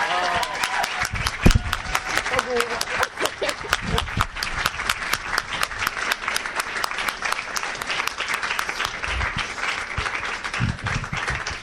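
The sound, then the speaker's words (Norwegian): A crowd at a public debate about the European Parliament election in Norway applauds the event's organizer warmly and steadily, dense overlapping claps sustained at a fairly even loudness, with a few sharper individual claps standing out and faint murmuring voices mixed in. “Och i fravär av en EU-konfekt så ska hon få en norsk monarkisk Kong Håkon-konfekt och en hjärtlig applaus från publiken.”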